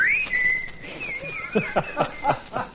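A man and his group whistle a tune together on a radio program: a long, bright held note slides and wavers, then shorter whistled phrases ride over a steady, bouncy rhythmic pulse underneath.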